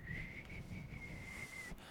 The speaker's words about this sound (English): Whistles instead of words. What's the most unusual means of communication you've ever heard of?